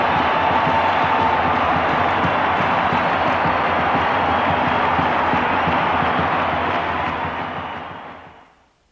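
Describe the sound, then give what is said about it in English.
A basketball arena crowd roars and cheers after the Gophers' 80-78 cliffhanger victory, a loud, dense, sustained wall of voices and applause that holds steady for several seconds before fading away at the end. “And just listen to the crowd.”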